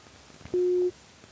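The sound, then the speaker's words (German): A single short, steady electronic phone tone beeps once at a fairly low pitch, loud and clear against a quiet background: a call tone heard on a mobile phone while someone places a call to a mobile. “Ich rufe dich jetzt mal auf dem Handy an.”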